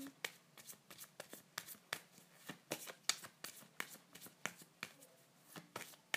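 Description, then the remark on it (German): Game cards showing characters being reshuffled, a run of quick, crisp riffling clicks and slaps in an irregular rhythm, fairly quiet, with no talking. “Also ich mische noch mal, weil die genau gleiche Kombination hatte ich schon mal.”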